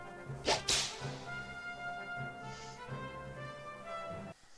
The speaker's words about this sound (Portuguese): Mais nada, aqui vai o belo do chicote. Olha, toma uma imagem chicotada.